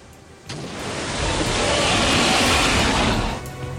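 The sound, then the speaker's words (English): A heavy crash of churning ocean water as a gigantic sea creature breaks the surface and crashes into a ship, swelling into a loud, roaring surge that holds for a few seconds before easing off, with no voices present. “A gigantic creature breaks the surface, crashing straight into your ship.”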